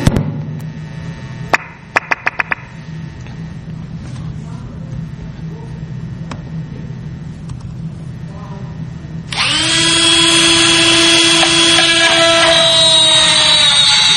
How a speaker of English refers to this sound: This is a plug. This is a shear line attack. So the drill is just actually creating another shear line. And you can see how easy that's going through this profile cylinder from Europe.